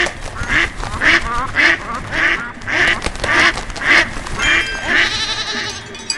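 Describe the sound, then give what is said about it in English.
A duck quacks over and over in a steady rhythm, about ten loud, nasal quacks, with a busy background of other animal noise. “So let's get the duck.”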